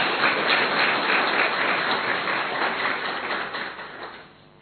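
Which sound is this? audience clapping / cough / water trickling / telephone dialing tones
audience clapping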